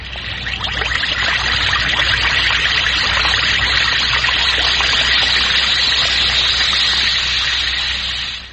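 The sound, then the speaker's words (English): An Alka-Seltzer effervescent antacid tablet fizzes steadily in water, a loud crackling hiss of countless tiny bursting bubbles that holds constant for several seconds with no voices. “Friends, that's the Alka-Seltzer fizz.”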